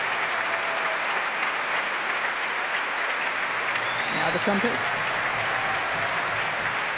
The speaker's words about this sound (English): I think they're all being brought up to their feet, one by one, and now all together. The wind section standing now to receive the applause. Now the horns.